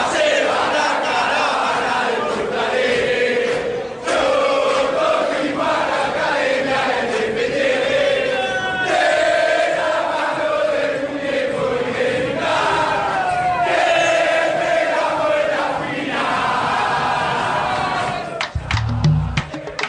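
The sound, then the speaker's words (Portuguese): A large stadium crowd of River Plate football fans chants a reworked classic song in unison after the club won its fourth Copa Libertadores, loud and continuous with a steady melodic rise and fall, the massed voices echoing across the stands. “O River Plate conquistava a sua quarta Libertadores da América, Gallardo a sua segunda no banco de reservas e a torcida do River fez uma releitura de outro clássico sudado.”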